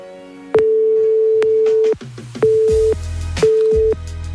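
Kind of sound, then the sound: signal or alarm, telephone call tone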